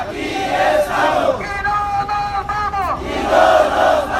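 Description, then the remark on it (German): Refugees in Mexico, on foot toward the US border, chant together in chorus to motivate themselves: loud rhythmic group shouting that rises and falls in waves, with a sustained pitched vocal stretch in the middle before the chant resumes. “Mit Sprechchören motivieren sich die Flüchtlinge.”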